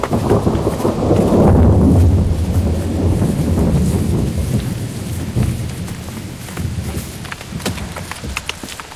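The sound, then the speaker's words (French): A thunderstorm: a deep, heavy roll of thunder swells in the first few seconds and slowly fades, while steady rain keeps pattering throughout, with scattered sharper clatters near the end. “Ils étaient là depuis un certain temps, déconcertés par la violence de l'orage”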